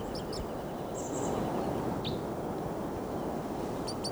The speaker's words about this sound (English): Crossbill just arrived here on the scene. Looks like a male. And it's not getting flight calls. This is him.